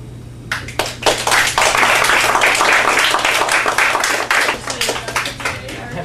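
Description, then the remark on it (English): A crowd of people breaks into steady applause, many hands clapping densely and continuously for several seconds. “So how come they get a round of applause before they didn't stop?”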